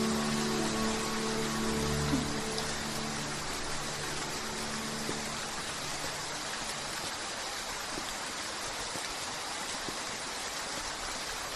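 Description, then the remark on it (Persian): Steady, dense rainfall that began suddenly at night hisses continuously and fairly loud, with a low rumbling hum in the first few seconds that fades, leaving only the even wash of rain. “ولی یه دفعه بارون گرفت و نتونستم تاکسی پیدا کنم، واسه همین دیر شد.”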